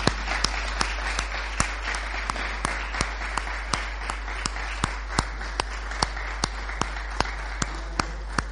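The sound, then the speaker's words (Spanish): An audience at a press conference applauds steadily for several seconds as a heartfelt tribute, a dense wash of clapping punctuated by sharp, evenly spaced claps that keep a regular beat. No one speaks over it. “Así que me gustaría humildemente mi pequeño homenaje en forma de aplauso sentido esta mañana.”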